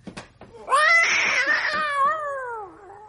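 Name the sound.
cat yowling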